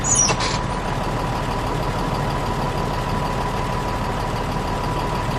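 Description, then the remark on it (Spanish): A bus engine idles steadily with a low, continuous rumble and a faint hum, with a brief higher chirp at the very start and no voices; the bus, somewhat emptier than usual, is in Tunisia on a February morning. “Se sube al autobús, que está algo más vacío de lo habitual.”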